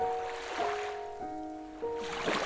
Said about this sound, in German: Einfach fallen lassen auf den Strand und über den Sand das Wasser sich noch ein wenig ausbreitet und verströmt, bis es zurückfließt in das weite Becken des Meeres.